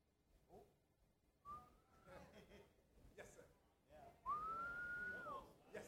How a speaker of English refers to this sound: You ever heard a whistling preacher?